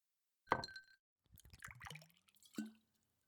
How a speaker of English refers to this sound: What if I said I'm partial to bourbon? I prefer it mixed. Goes down easier that way, but I'll drink it straight up from time to time. So, pour me something.